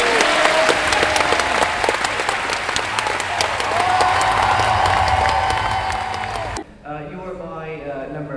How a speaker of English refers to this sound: Please give them as much of a round of applause as you can muster